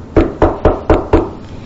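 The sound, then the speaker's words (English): Five loud, heavy knocks on a door in a quick, even rhythm, each a sharp thud with a short ring after it, followed by quiet; a bill collector knocking hard on the door. “A bill collector knocked on the door real hard.”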